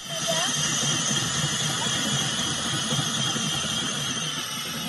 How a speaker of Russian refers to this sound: В отдаленном районе Восточной Антарктиды ученые бурят лед толщиной 5 метров.